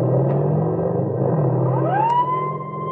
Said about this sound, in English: are in the vicinity of Ridge Avenue and Oxford when a car roars past them. The policemen recognize the car as one reported stolen and take out after the speeding automobile.